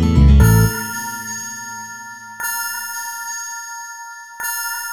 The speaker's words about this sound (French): j'assume en guettant la cloche avide à capter sur Radio Madrid depuis la Puerta del Sol pour fêter l'inédit. Se ponctue la farandole des 12 coups de minuit.